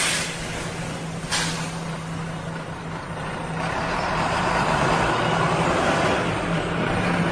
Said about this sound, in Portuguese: Pronto, gurizada, passou o ônibus nesse sabadão ensolarado, dia 30.